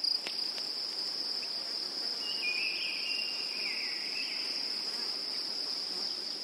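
Field crickets in a May meadow chirp in a steady, unbroken high-pitched trill that fills the whole stretch, with a faint brief whistling note drifting in partway through; no voices are present.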